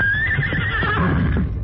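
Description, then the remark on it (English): Silver, the Lone Ranger's horse, whinnies loudly, a long, quavering high-pitched neigh that wavers and descends over nearly two seconds, with a low rumble of background noise underneath. “As the Lone Ranger and Tonto waited at the top of the rise, Silver could sense there was danger ahead and whinnied his defiance.”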